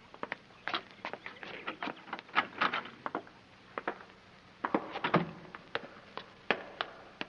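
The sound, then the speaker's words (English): A heavy door to an all-stone cellar is worked open with a string of sharp, irregular clicks, knocks and rattles, moderately loud, with no one speaking. “There's a door. That must be the cellar. We'll try it.”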